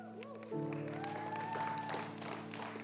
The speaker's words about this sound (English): Let's get a much bigger round of applause